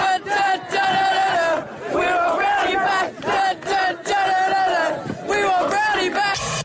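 A crowd of schoolboys protesting and calling for the resignation of their headmaster chants loudly in unison, the massed voices rising and falling in rhythmic bursts separated by brief pauses, with no other sound standing out.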